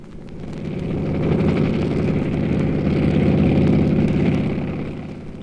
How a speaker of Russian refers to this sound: Над краем поля пролетает самолет ПО-2, музейная редкость в наше время. Скорость около 200 км в час.